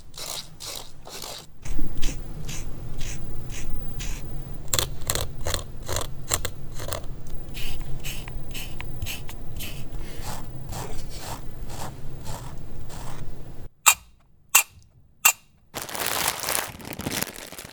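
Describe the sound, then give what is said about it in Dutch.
Styrofoam (piepschuim), a reference sample from the kit of the Plastic Identification Tool, squeaks and creaks as it is rubbed, in a steady run of rapid, gritty bursts, followed by a few sharp isolated clicks and a final scratchy rush. No one speaks. “Er zit ook een voorbeeld van piepschuim in. Daarom heet het piepschuim.”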